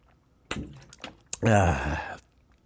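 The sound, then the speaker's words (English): Someone takes a few quick sips of water, with soft gulping clicks, then lets out a loud, drawn-out sigh of satisfaction. “Excuse me. Let me get some water.”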